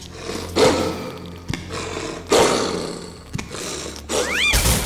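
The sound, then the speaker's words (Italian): A huge guard dog of the third room, foaming white at the mouth as it barks, lets out deep, booming barks, two big roaring blasts a couple of seconds apart with rough, growly rumbling in between and a brief higher whine near the end. “Aveva gli occhi grandi come la torre di Copenaghen e dalla bocca che apriva per abbaiare usciva come un ruscello una schiuma bianca appiccicaticcia che ormai ricopriva quasi tutto il pavimento.”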